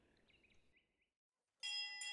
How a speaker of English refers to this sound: I can hear her from here. Not sure why they're messing with her bell.